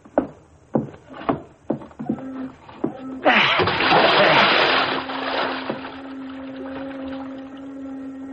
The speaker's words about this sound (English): I'm going to carry him to the edge of the pier and drop him over the side.